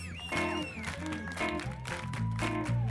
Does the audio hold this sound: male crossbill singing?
no